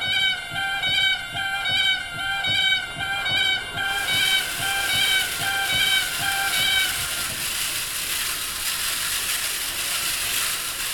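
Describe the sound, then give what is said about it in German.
A short-resonator reed pipe in an organ in Billerbeck, built in 2016 by an organ builder from Waltershausen, sounds a rapid, stuttering run of loud nasal honks like a cackling goose as wind enters it, then gives way to breathy airy hiss as faint chattering tones trail off. “Und nun geht der Wind in eine dieser Pfeifen hinein und es erklingt schon mal eines dieser schnatterähnlichen Geräusche.”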